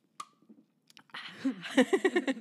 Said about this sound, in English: First sip. Cheers. Cheers.